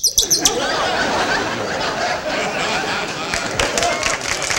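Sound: bird chirping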